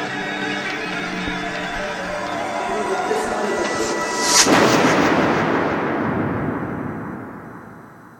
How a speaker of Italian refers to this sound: Listen, boom, you've heard that shot.